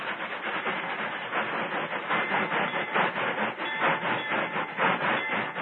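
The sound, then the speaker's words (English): An onrushing train rumbles and clatters steadily, a dense, loud mechanical roar that holds fairly even throughout with slight surges and no voices. “He seized a flare, lit it, and ran toward the onrushing train.”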